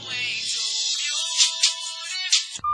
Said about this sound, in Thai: โทรศัพท์มือถือของลานดาวก็ดังขึ้น